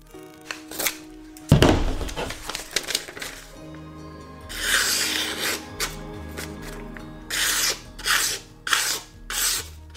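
A freshly sharpened knife blade rasps and scrapes through a wooden 2x4 in repeated harsh strokes, with a loud crack near the start, followed by bursts of gritty sawing friction, with no talking.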